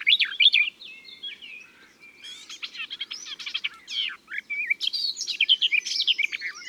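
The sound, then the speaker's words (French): A garden warbler sings a long, continuous warbling song of rapid, varied chirps and trills, clear, with no voices present. “Enfin, voici la fauvette des jardins.”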